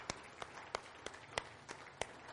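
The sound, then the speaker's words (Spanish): Steady, rhythmic hand clapping in unison, given as applause to the Lord: about seven sharp claps at an even pace over a soft background hiss, fairly quiet and with no voices. “Denle al Señor un aplauso.”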